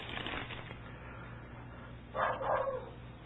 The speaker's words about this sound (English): Why, she's got the dog barking.